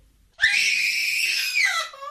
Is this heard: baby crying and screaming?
yes